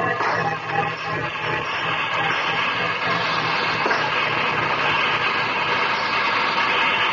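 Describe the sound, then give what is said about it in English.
A steam train engine runs steadily, a loud, dense mechanical roar with a constant hiss and rumble that holds without pause, no voices over it. “Everyone thinks the regular engineer is running this engine.”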